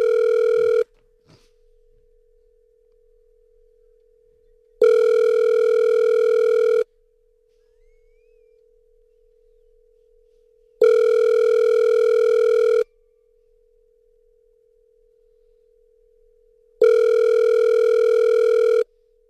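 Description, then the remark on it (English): A phone line ringing out: four steady, buzzy ring bursts about two seconds long, spaced by roughly four seconds of near silence, clear like a handset earpiece. No one speaks. “Just do it, Bird. Call the phone.”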